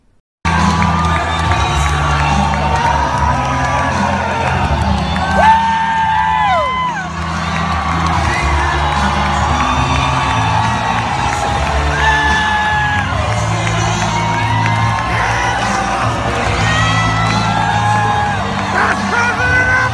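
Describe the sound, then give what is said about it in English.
A large crowd at a presidential rally, recorded on a mobile phone in the audience, cheers and whoops steadily for the whole stretch, with high yells and shouts rising over a dense, loud roar of voices. “And then we'll look at that same event from the mobile phone that was in the audience.”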